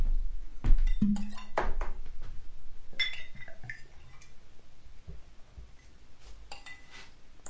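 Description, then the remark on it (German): Glasses clink together in a toast, several sharp bright taps in the first three seconds, followed by quieter handling noises. “Zum Wohl, Prost. Prost.”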